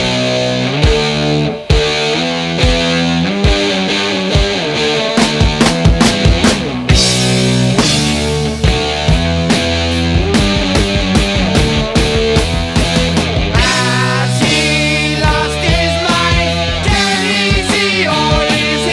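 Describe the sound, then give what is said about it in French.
Heavy, distorted heavy metal electric guitar plays a slow, grinding riff with a harsh metallic edge, said to come from a prosthesis on the guitarist's finger, loud and sustained over thudding drums, with a brief pause before the riff crashes back in. “La légende prétend que le caractère métallique du son du guitariste découle de la prothèse qu'il porte à un doigt qui avait été tranché dans une usine de Birmingham.”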